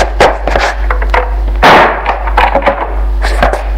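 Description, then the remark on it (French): A door is pulled shut with a solid thud in the middle as a man pulls another man inside by the arm, surrounded by a flurry of sharp knocks and scuffling clatter; no one speaks. “Il le tire par le bras et ferme la porte.”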